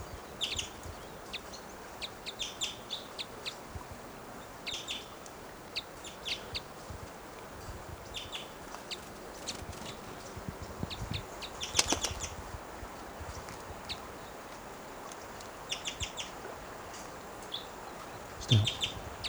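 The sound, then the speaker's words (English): A wild male bird gives soft, cuckoo-like calls: short, quiet notes repeated irregularly over a steady hiss of background noise, with a few slightly louder calls near the middle and end. No one speaks. “He's giving little cuckoo-like calls.”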